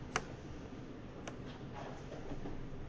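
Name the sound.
clocks ticking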